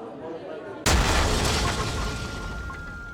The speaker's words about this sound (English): A massive explosion has ripped through a busy cafe in the Moroccan city of Marrakesh, killing at least 15 people and wounding 20 others. The Argana restaurant on Jama El Fina Square is popular with tourists.